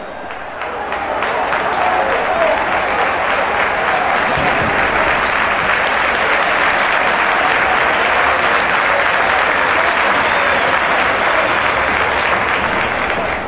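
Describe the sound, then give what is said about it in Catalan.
A large crowd at a cold Barça football match applauds loudly and continuously for Messi, injured and substituted in the second half, and his replacement. Thousands of claps merge into a dense, steady roar that swells in the first second and holds at full strength throughout. “Hi ha un fort aplaudiment per tots dos jugadors.”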